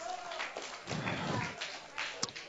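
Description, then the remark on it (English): A short round of audience applause for the winner of a contest, a dense burst of many hands clapping with a few sharper taps and thuds, holding fairly steady for a couple of seconds. “Winner at the back, round of applause.”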